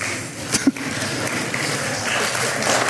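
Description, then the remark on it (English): An audience claps steadily during worship, a dense, even patter of many hands with a couple of sharper bursts near the start and a slight swell toward the end. “Why are people clapping?”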